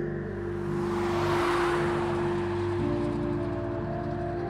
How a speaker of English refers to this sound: The street below bustled with cars and early evening commuters, slick with 8 p.m. drizzle and a suggestion of thunderclouds.